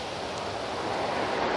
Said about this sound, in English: It is a windy morning. I mean, seriously windy morning.